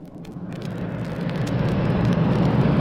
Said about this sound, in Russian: Оживленный московский перекресток.